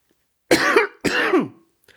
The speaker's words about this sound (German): Selten hat man gespannter auf einen Hustenanfall gewartet.